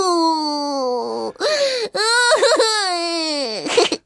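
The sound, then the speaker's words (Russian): A girl wails loudly and continuously, long drawn-out sobbing cries that rise and fall in pitch, broken by a couple of quick gasping breaths, with nothing else behind it. “это Ганя-ревушка. Плачет, заливается, платьем утирается.”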